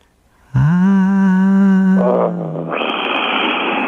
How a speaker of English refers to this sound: Make sure you do it from your gut, but very soft. Scream with me in 3, 2.